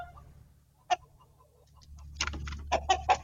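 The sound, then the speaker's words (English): A rooster and hen cluck in a coop in short, sharp bursts, one isolated call early on, then a busier run of clucks, over a steady low rumble of background noise, as a hawk comes into the coop. “So here we have a hawk coming into the rooster, the coop.”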